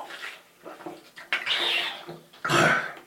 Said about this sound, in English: Taking another cold water swig.